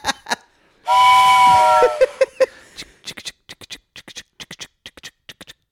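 A loud steam train whistle blows for about a second, a steady hissing tone, followed by short rhythmic bursts that trail off.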